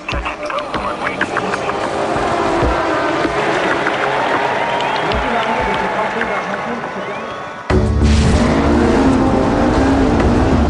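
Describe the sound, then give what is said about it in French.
An Audi diesel race car engine at the 24 Hours of Le Mans in 2006 roars loudly and steadily over a murmuring crowd, then the scene cuts abruptly to an even louder burst of engine noise. “Le 18 juin 2006, la victoire aux légendaires 24 heures du Mans va à une Audi. La première voiture à s'imposer avec un moteur diesel.”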